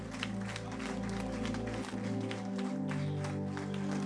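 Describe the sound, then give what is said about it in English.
A standing audience claps in steady, continuous applause as a clap offering to the Lord, over sustained organ or keyboard chords, the noisy clatter of hands holding at an even, fairly loud level throughout. “Now, I think the Lord deserves a standing clap offering for that.”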